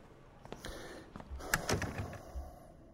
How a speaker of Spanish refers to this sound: Cierra la puerta, por favor.